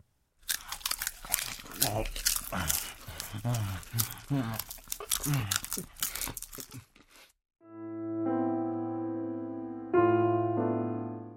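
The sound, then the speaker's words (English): Loud crunching of corn kernels being chewed by several people, rapid irregular bites for several seconds, then the chewing stops and a sustained low musical drone swells in. “The only sound in the room was the crunch of the corn kernels.”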